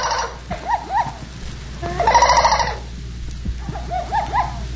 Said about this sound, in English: We shall hear his voice from one of my priceless tape recordings. The first sound you will hear is the natural jungle call of the minor bird.